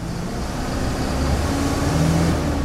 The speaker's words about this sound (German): Der Bus nach Chapuri verlässt die Vororte von Rio Branco.